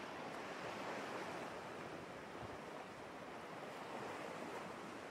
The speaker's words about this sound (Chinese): 大海一望无际，海风轻轻，浪花朵朵，涛声阵阵，感觉特别放松。